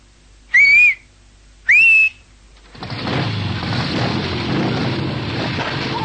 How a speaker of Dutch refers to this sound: Dan sta je dus op een druk plein met veel verkeer. Ja, omdat ik twee keer op mijn fluit geblazen.